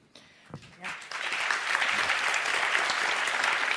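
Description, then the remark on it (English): An audience breaks into applause that starts with a few scattered claps and quickly swells into steady, loud clapping that continues to the end. “I mean, I'm glad that got some applause because this is actually a really, really big deal.”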